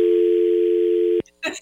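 signal or alarm, telephone dial tone

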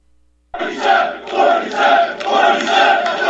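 crowd, crowd chanting

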